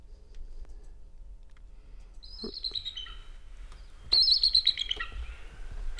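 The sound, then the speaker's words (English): A bald eagle calls twice with high, thin chortling chirps, each a quick descending series of squeaky notes, the second burst louder, over quiet outdoor background. “Let's hear that real bald eagle again.”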